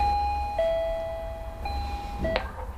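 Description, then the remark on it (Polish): An apartment intercom on a building wall rings as a visitor calls, with steady sustained tones that shift pitch a few times, followed by a short click, against low background hum. “No i teraz szukam na ścianie domofonu i dzwonimy.”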